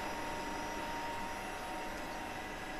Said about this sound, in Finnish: Seuraava ääni johdattelee meidät Helsingin yliopiston kiihdyttimelle kumpulaan.